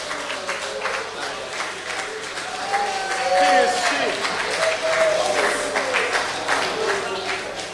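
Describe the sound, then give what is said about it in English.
An audience at a party applauds steadily for several seconds after a prize presentation, a dense wash of many hands clapping that swells slightly midway, with faint murmuring voices mixed in underneath. “Give him a clap.”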